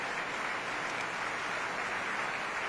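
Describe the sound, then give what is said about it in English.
A crowd applauds steadily as the conductor, Maestro Dubilly, enters the orchestra pit before Act 2 of Verdi's Luisa Miller. It is a dense, even wash of many hands clapping that holds at a moderate level for the whole stretch, with no voices rising above it. “Giving him a little round of applause himself, shaking hands with David Chan.”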